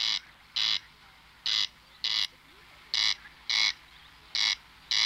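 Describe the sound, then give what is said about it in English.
A corncrake, a small wading bird from Europe, calls repeatedly, a dry, rasping double note, crex-crex, in evenly spaced pairs. The calls are loud and harsh over a quiet, steady background, with no voices. “Now at last, I can hear birds like the corncrake. It's a little wading bird from Europe whose name I always liked because it made me think of Kellogg's corncrakes.”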